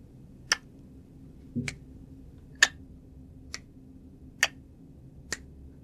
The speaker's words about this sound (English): And then I heard it. This clicking sound. It sounded like someone was clicking their tongue to get my attention.